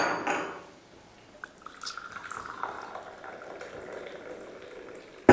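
Coffee is poured steadily into a cup for several seconds in a prison, a soft rising gurgle that ends with a sharp clink of crockery. Fairly quiet, with no talking.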